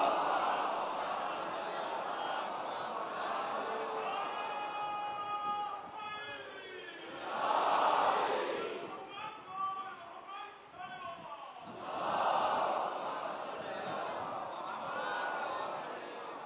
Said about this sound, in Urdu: معاملہ جو ہے وہ صلوات کے نعرے تو خیر مومنین لگاتے ہیں، لگانا چاہیے انہیں، اس لیے کہ خوشی کی بات ہے اور جوش عقیدت میں لگتے ہیں